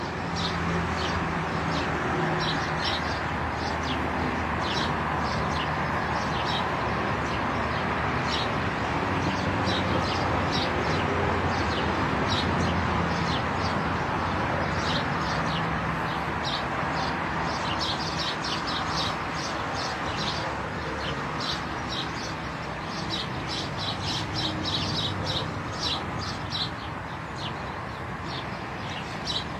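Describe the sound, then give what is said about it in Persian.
A dense chorus of sparrows chirps continuously for the whole stretch, many quick overlapping tweets over a steady low background hum, with no one speaking. “با پنجای خوشگلتون باهاتون خدافظی میکنم و شاید بهتر من چند لحظه سکوت کنم و صدای این گنجشکا رو با هم بشنویم.”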